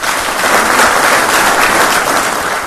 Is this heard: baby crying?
no